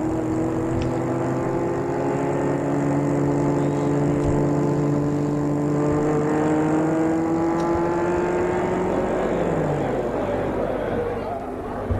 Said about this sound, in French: Et ils partent dans une belle voiture de sport blanche.